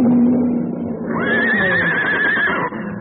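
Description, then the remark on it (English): A horse neighs in panic as lions close in on it, a loud, shrill whinny that rises sharply and holds a quavering high pitch before breaking off, over a low rumbling background. “No time to use the rifle. Get the horse away. They're after him.”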